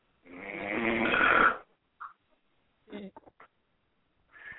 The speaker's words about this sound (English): Who's that snoring in the background? I don't know. I don't know. Sounds like somebody, wow. Somebody is snoring, huh? Yeah, I hear it snoring.